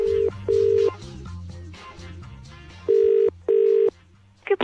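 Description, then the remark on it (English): A steady electronic phone ringing tone sounds in four long bursts, two close pairs with gaps between, as a call is placed to a pest control line, over a low murmur of background music, ending with a brief click. “ended up making this phone call to an even more confused woman.”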